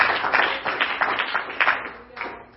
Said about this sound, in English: Can we clap our hands? Because He's the King of Glory. Praise God.